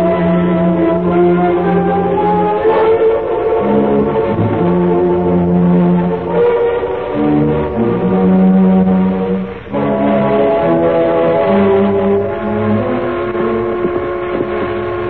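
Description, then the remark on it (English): The whistle of an eastbound steam train sounds loudly and almost without pause, with long, chord-like blasts that shift between several pitches. No one speaks. “Eastbound now. That's her whistling.”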